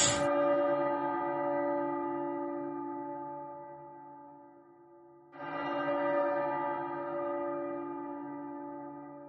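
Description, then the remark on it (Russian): Two deep, heavy bell tolls, the start of an air raid alert in Chernivtsi, Ukraine, about five seconds apart. Each somewhat church-like strike rings out loudly and hums for a long time as it slowly fades, with no voices. “Интересно, что я был в Черновцах в это время, и в Черновцах звук воздушной тревоги начинается с удара колоколом, с таким набатом.”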